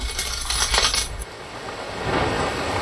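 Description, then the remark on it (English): Coins drop and clink against a hard surface in a quick burst of bright metallic jingles during the first second, then give way to a soft, steady hiss. “Drop in a coin. Charin charin.”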